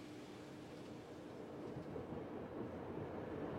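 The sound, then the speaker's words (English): A diesel train rolls slowly along the rails with a steady, low mechanical rumble that swells slightly louder as it continues, with no voices. “I will now go forward to the leading diesel with my assistance and we will proceed slowly into the infected area.”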